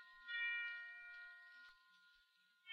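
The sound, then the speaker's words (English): Christmas bells ring softly, their bright, sustained tones overlapping and lingering with a gentle swell and fade, with no voices present. “They're ringing for us. They're wishing us a Merry Christmas.”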